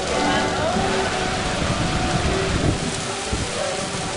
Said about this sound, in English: The music can't compete with the downpour, but there is refuge in a classroom.